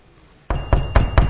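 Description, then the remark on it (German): Four firm knocks, as on a door, fall in a steady, evenly spaced rhythm after a brief quiet moment. They sound fairly loud, with no voices. “Er klopft an.”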